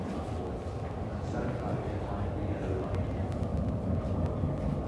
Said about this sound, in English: Good morning, ladies and gentlemen. The train now approaching to one of the stations in Morden. Please do ensure you stand back behind me.